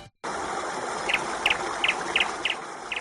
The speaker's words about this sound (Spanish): A estas horas, los lunes, siempre escuchamos un pajarito.